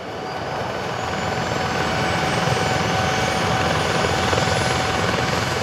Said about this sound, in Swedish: Efter att ha tankat landar helikoptern på räddningsstationen i Lom för att plocka upp den frivilliga fjällräddaren Kristen Tellefsen. På grund av den höga höjden är luften tunn och helikoptern klarar bara att frakta en person åt gången.